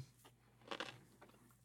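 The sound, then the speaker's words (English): A crisp, crunchy bite into a pickle eaten as supper, with a burst of crackling at the bite followed by a few softer wet crunches of chewing, fairly quiet overall with no talking. “I'm going to bite into the pickle and you're going to hear it.”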